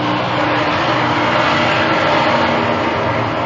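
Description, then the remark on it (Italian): A helicopter arrives, roaring loudly, a steady, dense engine and rotor noise that fills the whole moment without fading, with no voices over it. “Questo è l'arrivo dell'elicottero.”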